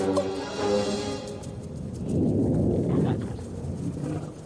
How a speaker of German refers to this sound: Sag mir, dass das dein Bauch war. Psst. Das war bestimmt bloß Donner von unter der Erde.